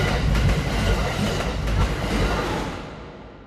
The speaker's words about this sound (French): Le soir, à l'heure de pointe, ceux qui ont réussi à s'asseoir s'endorment presque tous, bercés par le rythme de la rame.